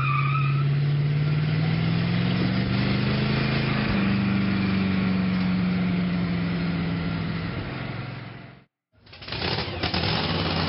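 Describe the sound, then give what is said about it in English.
A Mad Max-style car's engine roars loudly and steadily as it is driven through zombies, its pitch slowly climbing as it revs, with a brief squeal of tires at the start. The sound cuts out near the end, then resumes. “I'm going to drive through all these goddamn zombies.”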